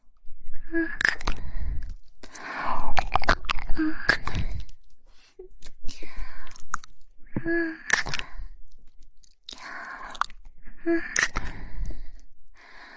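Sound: kissing sounds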